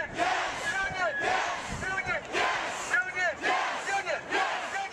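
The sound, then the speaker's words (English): A large protest crowd of thousands of people carrying signs chants loudly inside the Capitol in rhythmic bursts, voices overlapping into a dense roar that swells and dips roughly every second, echoing. “Thousands of people filled the Capitol carrying signs and chanting.”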